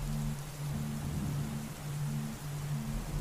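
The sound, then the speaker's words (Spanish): Steady rain hisses evenly throughout, a dense wash of fine patter with no voices, while a low, rhythmic hum pulses softly underneath. “Pero para eso está la lluvia.”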